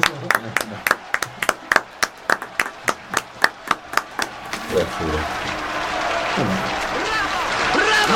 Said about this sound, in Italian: Aspettate, perché si stanno gli applausi, eh? Ma questi sono più dal vivo.